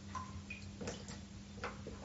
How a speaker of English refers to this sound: That is water.